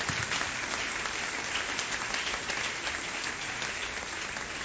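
A crowd applauds to acclaim the name of the Lord, a dense sustained wash of many hands clapping at once with no individual rhythm, holding at an even level for several seconds.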